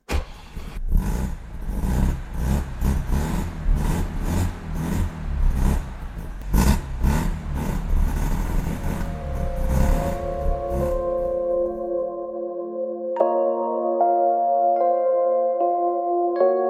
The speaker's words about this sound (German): Aber wie sich der Wankelmotor im Ro 80 anhört, das erfahren wir jetzt.